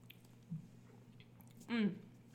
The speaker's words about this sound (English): So let's have another sip. Don't mind if I do. Mm.